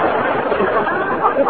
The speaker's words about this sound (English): There's the Philadelphia crowd now. It's the happiest crowd I've ever seen.